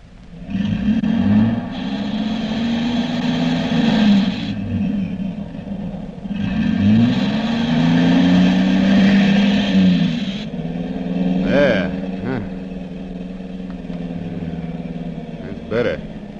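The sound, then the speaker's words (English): A car engine rumbles and revs steadily while driving through deep water on a flooded road at a corner near the turn for a bridge, with two long bursts of rushing, hissing spray as the tires plow through. “Oh, take it easy now. This whole corner's a lake.”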